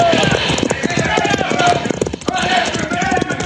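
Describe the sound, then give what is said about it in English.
Horses gallop hard, their hooves pounding out a rapid, continuous drumming rhythm that stays loud and steady throughout, with a busy layer of other sound mixed underneath. The riders are fleeing bandits on horseback. “Now, Pancho, run for your horse.”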